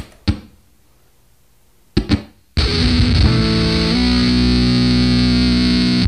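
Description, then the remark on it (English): Two short stabs of guitar through a heavily gated distortion pedal using a gas-filled tube, then a sustained, buzzing wall of fuzzy distorted guitar chords ringing loud, cutting off abruptly at the end. “And one of the side effects of the way it works, which is unlike any other distortion pedal, is that it seems like there's like 100 gates in different frequency bandwidths.”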